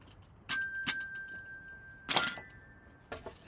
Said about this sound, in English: Instead, now it's about bells.